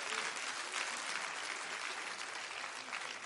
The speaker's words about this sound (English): And if you know that to be true, that God has helped you, why don't you say thank you, Jesus, and clap your hands today. Anybody thankful for that?